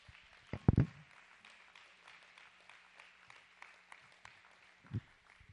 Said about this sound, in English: Let's say praise the Lord. Give him a hand clap.